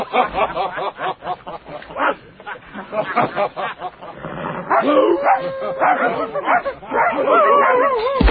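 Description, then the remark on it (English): A dog brought to war barks in a rapid run of sharp yaps, then shifts into higher whining and yelping, with muffled voices mixed in underneath. “Only an Arab would bring... A dog to war?”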